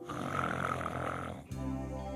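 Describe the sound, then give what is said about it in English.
A drawn-out, raspy snore, imitated by a voice as a dog settling into a long sleep by a roaring cedar post fire, runs for about a second and a half. A lower, smoother exhale follows. It is steady and fairly loud, with no talking over it. “Warmed by the warmth of the roaring cedar post fire, I surrendered my grip on the world and prepared myself for a nice, long Murgel Skiffer in front of the pork chop.”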